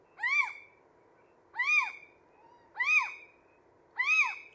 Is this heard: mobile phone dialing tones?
no